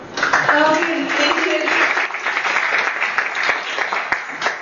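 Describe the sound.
A crowd breaks into steady applause for a presenter after her presentation, during a video call, a dense wash of many hands clapping with a few sharp individual claps, while voices call out briefly near the start before the clapping gradually thins.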